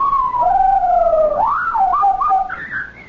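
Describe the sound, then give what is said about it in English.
A parrot named Napoleon lets out an odd, continuous whistling call, with loud tonal glides that swoop down, rise sharply, wobble and climb higher over about three seconds, with no talking. “I never heard a parrot make a sound like that before.”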